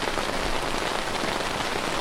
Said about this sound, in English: And then it poured rain. I mean, it poured rain so hard that not only are we hearing the rain on the tent, we're hearing the sound of rain running underneath the tent.